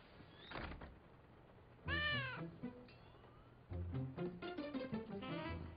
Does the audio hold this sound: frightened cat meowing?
yes